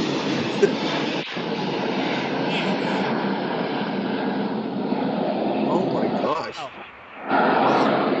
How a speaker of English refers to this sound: There it is. The Learjet. I know. We'll let him go. He's on his way. He's on his way, Learjet.